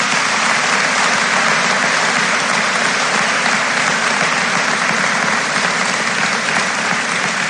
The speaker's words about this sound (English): Please join me in giving these students a round of applause.